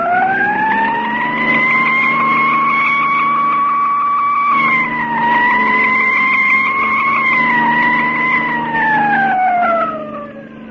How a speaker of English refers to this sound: Step on that siren, Mark, and drive.